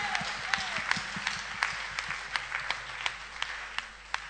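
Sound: audience clapping in applause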